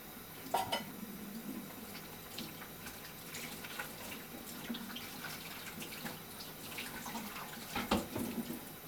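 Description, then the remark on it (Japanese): Running water fills a sink while a couple of sharp clatters and clinks ring out as a cutting board and knife are set down in the sink, with scattered smaller knocks throughout and no talking. “じゃあまな板と包丁だけ入れておきましょう。”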